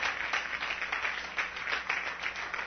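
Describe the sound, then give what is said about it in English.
A worship audience claps together in praise of the Lord, steady, sustained applause, a dense wash of many overlapping hand claps at an even, fairly strong level with no voices standing out. “Let's give the Lord just a hand clap of praise.”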